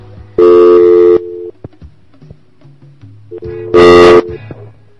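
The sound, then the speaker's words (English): Two loud, steady electronic tones, each lasting under a second, separated by a quieter stretch of faint low beeps, as a phone line is tested with dial tones. “Phone is working. I forgot to check the phone until the last minute. So the phone system is working.”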